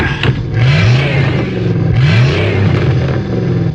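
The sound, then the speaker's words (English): The heavy engine of a red double-decker bus in London revs and climbs in pitch a few times, loud, over a steady wash of morning rush-hour traffic noise with no voices. “The morning rush hour is starting now, and London's familiar red double-decker buses are in evidence everywhere.”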